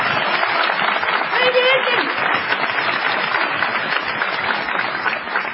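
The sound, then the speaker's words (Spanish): A crowd applauds a guest steadily for several seconds, a dense wash of clapping that stays loud and even throughout, with a brief whoop or cheer rising above it early on. “No menos injusta será la ovación que tributaremos a …”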